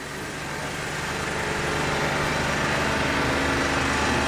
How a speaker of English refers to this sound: Right, they're hosing down the tractor here.